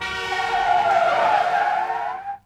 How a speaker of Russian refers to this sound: Стюарт подъехал ровно в 9. Лихо поставив машину у дверей школы